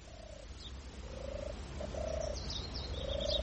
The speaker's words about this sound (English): Doves. They're very pretty.